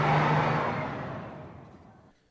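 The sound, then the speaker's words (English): A bus engine revs with a loud, rumbling roar, then steadily fades as the vehicle pulls away, trailing off into quiet within about two seconds. “And, you know, I've heard of bus in Luxembourg. They don't sound like that.”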